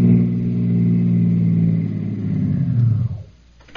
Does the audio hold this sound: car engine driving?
yes